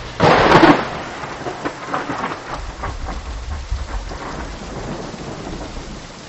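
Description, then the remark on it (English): A loud crack of thunder opens, followed by steady rain hissing and a low rumbling wash of a river's rushing water and thunder beneath, with no voices. “Have a listen for about 15 seconds to some thunderstorm and river flow sounds, and see if you can guess four kinds of information she'd want to know.”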